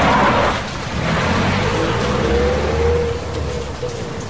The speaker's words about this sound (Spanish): Es de noche y llueve.